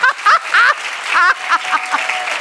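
An audience breaks into steady, loud applause, a dense wash of clapping with excited whoops and cheers rising over it in bursts before settling into continuous clapping.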